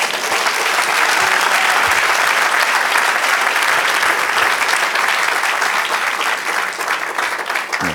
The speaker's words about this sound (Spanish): Vamos a darle un aplauso al Señor.